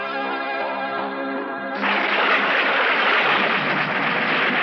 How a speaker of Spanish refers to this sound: Ya de noche, una tormenta descarga sobre el bosque.